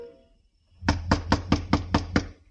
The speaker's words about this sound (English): Right now it was a street where Paul's murderer might be waiting in a dark room behind a locked door, waiting for a knock that had to come.